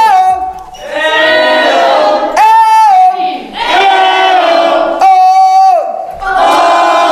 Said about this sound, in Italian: Voi siete rock and roll? Fatemi sentire un grido rock and roll. 1, 2, 3.